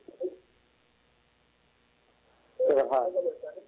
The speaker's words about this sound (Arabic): اسمعنا من الهاتف واغلق صوت التلفاز لو سمحت.